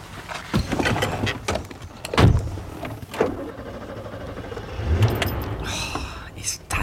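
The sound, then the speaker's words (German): A car rolls slowly up to a parking area with a low engine rumble, punctuated by several thuds and clunks like doors or gravel bumps, and faint voices murmur in the background. “Fahrt euren Wagen bitte oben auf den Parkplatz.”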